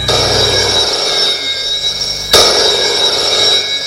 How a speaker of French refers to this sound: qui est à son bureau, le téléphone sonne.